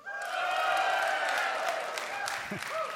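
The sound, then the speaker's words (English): An audience cheers loudly and steadily for about three seconds, a dense mix of voices and shouts with a brief high whoop rising near the end, cheering for the Eagles on the day of the Super Bowl. “I'm just curious, so how many of us will be cheering for the Eagles?”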